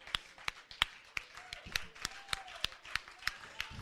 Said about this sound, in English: Now somebody give him a good hand clap in here.